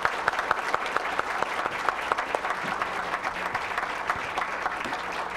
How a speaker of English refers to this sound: Thank you, both of our candidates. I think we owe you both a round of applause.